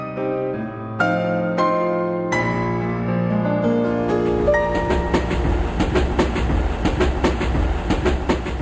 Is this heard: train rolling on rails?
yes